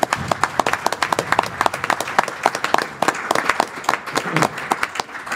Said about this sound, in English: Let's give Andrew a round of applause for the watch.